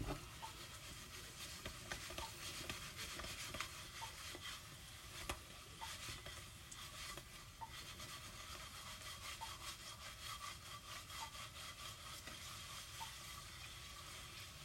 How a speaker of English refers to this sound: Like, you can hear some of them skidding. Like, they're... There's, like, three of them stuck together, bro. I don't want that. How do people avoid that? I don't understand that now. Now I'm frying a potato. Also, potatoes take a lot of time to cook.